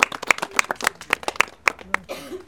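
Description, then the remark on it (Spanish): Applause in a steady, even rhythm: about eight sharp claps in quick succession, fairly loud, before fading as a voice briefly speaks at the end. “Un aplauso también.”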